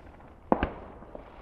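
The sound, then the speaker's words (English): Distant fireworks crackle and pop in a quick pair of bursts, followed by a faint single pop, over a low background rumble; a kind that fires off multiple little ones, part of fireworks going off for about 40 minutes since around 7 o'clock. “Or you can get the ones that just, you know, fire off multiple little ones like that one”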